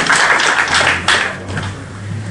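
A crowd at a meeting claps for the translator in a dense burst of applause that stays loud for over a second, then quickly thins out and fades away.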